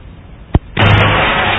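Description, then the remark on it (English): Inside Michael Guest's rally car, a low idle is broken by one sharp pop, then the engine bursts into a loud, steady, rumbling roar that holds to the end, with no voices. “This is what it sounds like in the car with him.”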